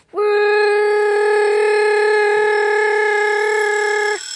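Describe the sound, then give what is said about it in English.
An alarm clock rings with a loud, steady buzzing tone, one unbroken note rich in overtones that holds for about four seconds and then cuts off abruptly. No one speaks. “No, it wasn't butterfly wings. It was the alarm clock.”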